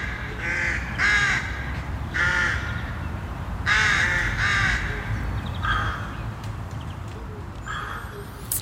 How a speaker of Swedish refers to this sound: Och efter att ha lyssnat lite på råkorna här i inslaget så inser man att det nog kan väcka en del känslor att ha dem nära in på sig en hel häckningssäsong.